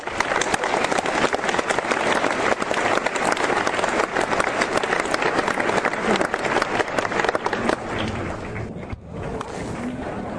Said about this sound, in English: Let us give these two outstanding characters a big round of applause.